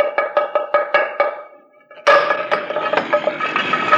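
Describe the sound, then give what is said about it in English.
About six quick, evenly spaced knocks of a hammer on a hollow-sounding stone in the corner of a stone wall, each with a short ringing resonance, then a pause before a louder, busier stretch of clattering and scraping. “Listen. It sounds hollow.”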